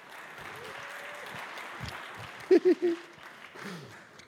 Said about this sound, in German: Ja, Applaus.